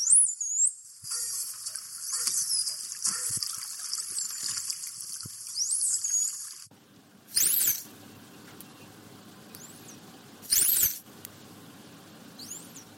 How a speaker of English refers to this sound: And you sent us a few of those signature whistles over. We'll have a listen to those now.